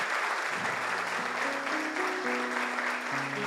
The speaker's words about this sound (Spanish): Quiero que le des un aplauso al Espíritu Santo. Vamos fuerte, fuerte ese aplauso.